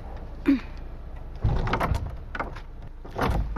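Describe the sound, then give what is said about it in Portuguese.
The heavy door of the church of Santa Iria, closed for 22 years, is pushed shut: a short creak, then a broad rumbling thud and a second bump near the end, with no one speaking. “Vai voltar a fechar a porta.”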